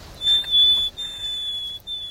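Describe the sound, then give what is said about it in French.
A person whistles an imitation of a nightingale's position call, the cry with which the bird always begins its song: long, steady, high pure notes broken by two brief pauses, fairly loud, with no talking. “Alors il commence toujours son chant par son cri de position, et après il décline son identité, il donne son âge.”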